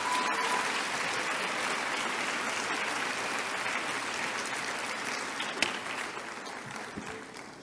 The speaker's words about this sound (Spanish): Muchas gracias. Un aplauso al ingeniero. Muchas gracias.